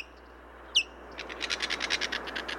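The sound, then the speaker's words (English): A single thin, high whistled note, then a rapid series of short, raspy high-pitched chirps from a white-tailed kite, a bird of prey, against a quiet outdoor background. “The white-tailed kite is a bird of prey with an uncanny ability.”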